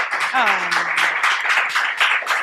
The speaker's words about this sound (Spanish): Al fin nos aplaudieron.